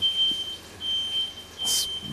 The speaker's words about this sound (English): 4:30 in the morning on a Monday, and as you can hear, the smoke alarm's going off. Welcome to Junee.